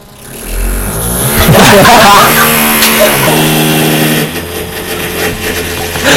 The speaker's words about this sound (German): Ich wollte schon immer mal einen Bohrer im Podcast haben. Wir entschuldigen übrigens. Das ist dafür ein Schlagbohrer übrigens. Der hat hier eine Betonwand gebohrt.